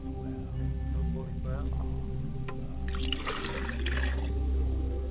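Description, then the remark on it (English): Water is poured out as a libation and splashes onto the ground in a short, uneven burst, over a low steady hum with a voice faintly present in the background. “And as the water hits the ground, we trust that the water will fall upon fertile ground and take root and spring up in the hearts of men all over the world.”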